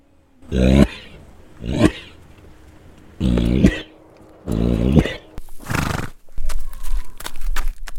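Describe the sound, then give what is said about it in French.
A chestnut Shetland pony named Potimarron, which has a hay allergy, coughs about five times, each cough a loud, harsh, throaty burst with a rough voiced edge, spaced a second or so apart, followed by scuffling, rustling noise. “Car Potimarron tousse comme vous et moi.”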